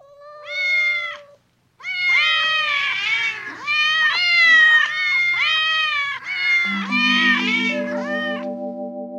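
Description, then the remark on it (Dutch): Several cats meow loudly and insistently as they pounce on a fish and gobble it down, their overlapping, wailing cries running almost without pause after a brief first meow. Near the end, a steady low tone joins in beneath them. “Terwijl ze dat zegt, duiken de andere katten boven op de vis en ze schrokken hem zo naar binnen.”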